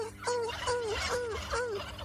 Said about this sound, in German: Wenn die Henne ruft, das hören wir da hinten im Moment ein bisschen lauter, dann geht das mehr in die Richtung.